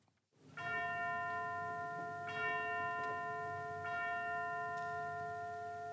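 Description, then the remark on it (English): Church bells ring the Angelus in Puccini's opera in three clear, evenly spaced strokes, each leaving a long shimmering resonance that hangs in the air between strikes. No voices are heard. “We now hear bells, and the sacristan recites the words of the Angelus.”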